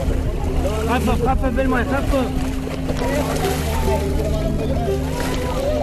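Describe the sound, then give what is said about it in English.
A boat's engine drones steadily at sea on a crossing of the Mediterranean from Turkey to Greece, water sloshing around the hull, while several people talk loudly over the constant noise. “His route included a perilous boat journey across the Mediterranean from Turkey to Greece, which he documented and later turned into a film.”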